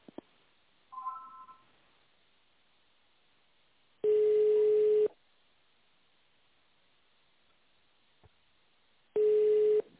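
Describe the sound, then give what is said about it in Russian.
A telephone ringback tone heard while on hold after an automated menu, on a call to the heating equipment seller Duncan: two long, steady, mid-pitched beeps about a second each, separated by roughly four seconds of near silence, with a faint brief blip early on. “Для соединения с отделом продаж наберите 1. Сервисный центр – 2. Бухгалтерия – 3. Факс – 4. Или дождитесь ответа секретаря.”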